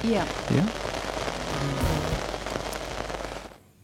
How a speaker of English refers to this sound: Just fade down the rain for a minute.